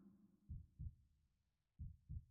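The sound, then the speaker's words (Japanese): A heartbeat thumps in two paired beats, lub-dub, then a pause and another pair—deep, muffled low thuds over a soft background hum. “ドクンドクンドクン、波打って脈打っている。そうやって受け継がれていく。あんたの命の鼓動でいいのかな。”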